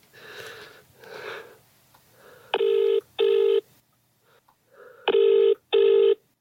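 A phone rings with an incoming call, two pairs of loud, close electronic double-rings separated by a short pause, preceded by a couple of soft breathy noises.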